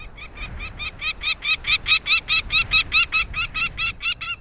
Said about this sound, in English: Northern nesting species of falcons, like this peregrine we're hearing, move southward, closer to their many admiring observers.